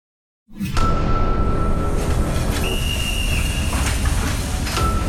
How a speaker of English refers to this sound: February 1954, Vienna. A freight train leaves the city's central station packed with cargo, but on board, there's more than just raw materials and packaged goods.